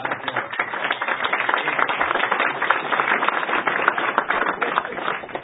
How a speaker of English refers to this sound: So a big round of applause for Mayor.